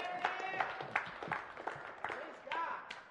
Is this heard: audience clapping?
yes